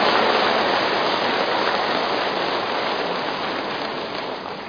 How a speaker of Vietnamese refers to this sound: Vâng, kính thưa toàn thể đạo tràng, để chương trình được bắt đầu, xin toàn thể đạo tràng dành một tràng pháo tay thật lớn thật dài để cho chương trình của chúng ta được chính thức bắt đầu.